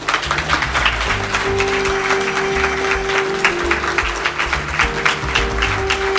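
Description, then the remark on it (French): An audience applauds the production team for their work, steadily for about six seconds, a dense, even wash of many hands clapping at a constant loud level, with a low sustained hum running underneath. “Je vous demande de les applaudir pour leur travail.”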